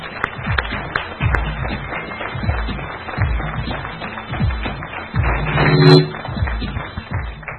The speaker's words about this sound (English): And give them a round of applause as they come right up to the microphone.